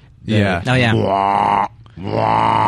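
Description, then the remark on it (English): A voice imitates the final alarm horn from the film 2001: A Space Odyssey with two long, loud, droning blasts, the first wavering at the start before holding steady, then a brief pause before the second sustained tone. “The thing about this that I remember, and I can recreate it as best I can without the sound, is the final alarm horn.”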